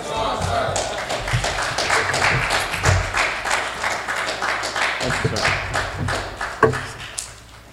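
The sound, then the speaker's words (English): A crowd applauds a presenter steadily, many hands clapping in a dense, continuous patter with scattered sharper claps and brief louder bursts, holding a fairly even level throughout. “Let's give Brother another round of applause, please.”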